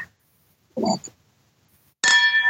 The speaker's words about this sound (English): I would rather cheers the glasses again.